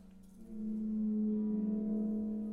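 A rubber superball rubbed across a cake pan produces a sustained, low, whale-like moan that swells in after a moment and wavers slightly as it holds, with no voices.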